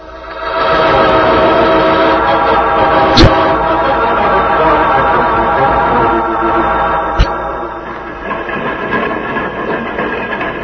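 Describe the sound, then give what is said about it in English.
A train rumbles steadily as it slows down, its wheels grinding with a dense, broad roar, punctuated by two sharp metallic clanks or squeals; the sound eases slightly toward the end. “Train is slowing down so that we can jump off.”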